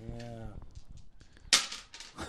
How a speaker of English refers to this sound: Are we rolling two double dice? I got two dice. They're loud. It's gonna, those are some loud ass.